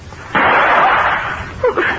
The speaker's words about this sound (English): That sounded like a gun.